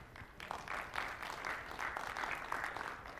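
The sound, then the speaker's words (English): A crowd at the Build Conference, during its last session, claps steadily for a few seconds, a dense patter of many hands at an even, moderate loudness with no voices over it. “I suggest we should give a round of applause to ourselves to staying this late, okay?”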